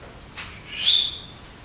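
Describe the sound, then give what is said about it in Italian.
A sonification of a gravitational-wave signal, its rising frequency converted into sound by an algorithm: a single short, high-pitched electronic chirp, a thin whistling tone that sweeps upward and fades, heard alone against faint background hiss after a brief breathy rush. “Si chiama chirp, perché è una cosa che comincia con frequenza bassa, chirp come chirp di cipriciotto, e poi sale, no?”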